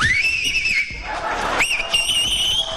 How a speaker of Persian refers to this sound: این آقا از بخواب سه تا انگشتش یا دو تاشو گذاشته تو دهنش داره سوت میزنه.